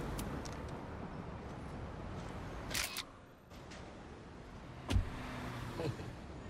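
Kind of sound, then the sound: vehicle, car driving away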